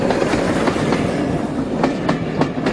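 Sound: train running on rails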